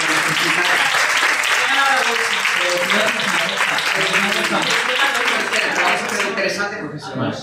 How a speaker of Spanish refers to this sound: Un aplauso para ella, que lo necesita.